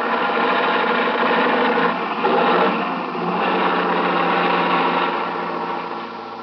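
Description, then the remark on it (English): A truck engine strains steadily under heavy load as the truck climbs a hill, a loud, continuous droning rumble with a throbbing, grinding tone that barely changes across the whole stretch, with no voices present. “Watch out for this truck. Yeah, he's pounding to make the hill.”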